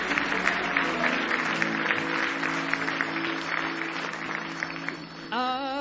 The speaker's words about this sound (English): Somebody say, praise the Lord. Give Jesus another hand clap of praise. You love him with all your heart.